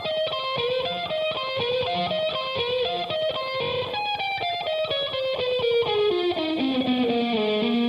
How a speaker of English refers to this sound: This guitar solo is a perfect example of compositional guitar work. The first four phrases all echo each other in a question and answer format and have different contrasting characteristics. Here's the first one.